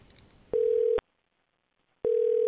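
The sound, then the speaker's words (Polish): Two steady, clear beeps of a phone ringback tone, each about half a second long with a pause between, heard alone over faint background hiss as an outgoing call rings. “I nawet jak zadzwonię teraz, to pewnie nie odbierze.”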